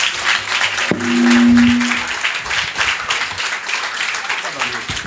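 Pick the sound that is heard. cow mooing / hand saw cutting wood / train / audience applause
audience applause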